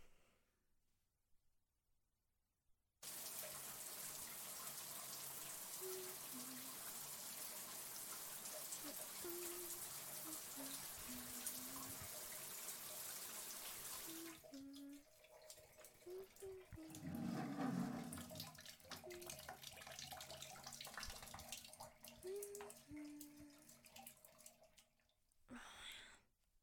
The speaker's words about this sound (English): Time for that shower.